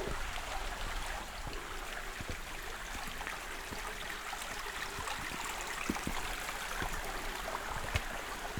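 A stream flows steadily through a limestone gorge in Slovak Paradise National Park, Slovakia, its broad, continuous rush filling the space with soft splashes and bubbling. No voices are heard.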